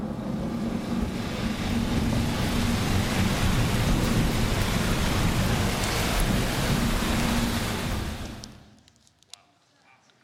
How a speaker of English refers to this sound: And then the rain came. Drip. Drip. Drip, and they're all going, what's that? What? It's falling from the sky. What is this? Water comes from down here. What? And all of a sudden, it kept going more and more and more.